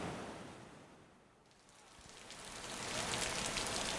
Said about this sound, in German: Schon am Morgen werden wir von grossen Tropfen geweckt, die durchs Zeltdach kommen. Es wird Herbst auch in Mexiko, es ist der Anfang der Regenzeit.